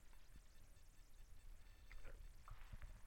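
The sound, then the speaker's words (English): Ice water pours quietly into a glass, a soft trickle with a few small clinks of ice toward the end, with no one speaking. “A little bit of ice water there.”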